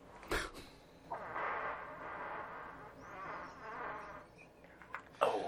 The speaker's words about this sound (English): Oh, damn. This one's going to the Hall of Fame for farts, I think.